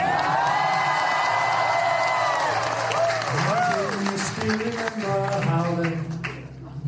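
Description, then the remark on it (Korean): At a White House state dinner in April, an audience breaks into sustained applause after President Yoon Suk Yeol sang a song, dense clapping mixed with cheers and whoops, loud, with voices calling out through the crowd noise. “지난 4월 국빈 방문 시 윤석열 대통령은 백악관 만찬장에서 이 노래를 불러 큰 박수를 받았습니다.”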